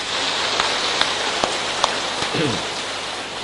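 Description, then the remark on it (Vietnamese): An audience at Hoằng Pháp Temple applauds the abbot steadily for several seconds, a dense, even wash of clapping with a few sharper individual claps standing out and a brief voice sounding faintly underneath. “Quý vị xin thưởng cho anh tràng pháo tay.”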